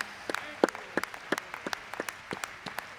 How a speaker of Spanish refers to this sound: ¡Qué día! Gloria al nombre del Señor. Vamos a aplaudirle.